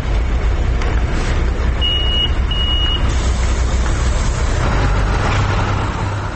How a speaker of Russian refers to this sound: Это автобусная остановка в 7:30.